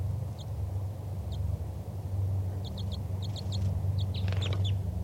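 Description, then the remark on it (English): A wild bird gives flight calls: short, high chirps, first singly and then in quick clusters of two or three, over a steady low rumble. “That was a wild bird giving flight calls.”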